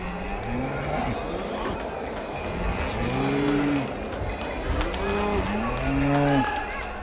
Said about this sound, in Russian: Впереди шли коровы и быки.